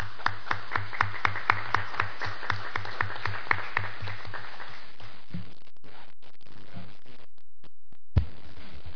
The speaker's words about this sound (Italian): Ringraziamo di nuovo Milano Tomorrow e vogliamo fare un grande applauso a loro che ci stimolano sempre di più.